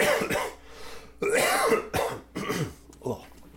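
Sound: coughing and throat clearing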